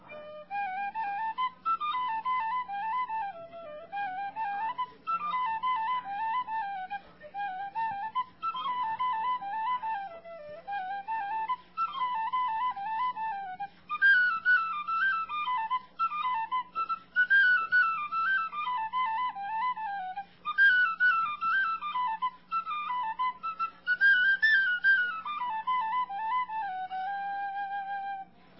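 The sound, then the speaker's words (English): A lively Irish tune played on a tin whistle, bright and ornamented, running continuously for about half a minute with a quick, dancing rhythm and a faint steady hum underneath. “No hard Irish dance shoes. Just the tin whistle now.”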